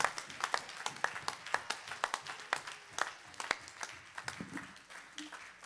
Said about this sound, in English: Come on, let's give God a hand clap of praise.